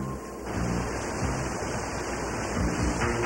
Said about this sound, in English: Look, let's check behind the water. I don't see anything that would stop the waterfall.